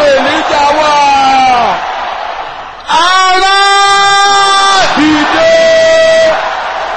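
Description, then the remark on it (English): A large crowd at a prayer service shouts together in loud, sustained unison, "Where is the Lord God of Elijah?", the voices rising in three long chanted phrases that fill the space, powerful with a slight echo. “Finally, la koton, as we go into this week of testimonies, you will now shout this loud and clear. Where is the Lord God of Elijah?”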